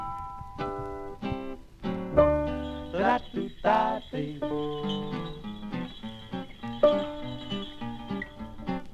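A small jazz combo plays a bouncy instrumental intro, with crisp plucked and keyboard notes over a walking bass, sounding like an old, slightly thin vintage recording with no vocals yet.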